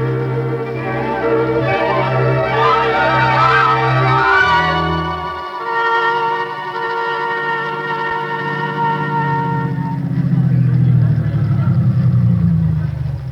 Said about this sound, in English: why is the car stopping?